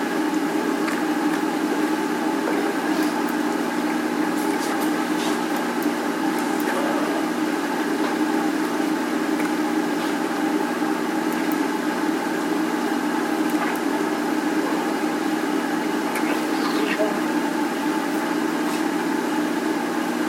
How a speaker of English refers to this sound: Sorry about that air conditioner, it's really working overtime.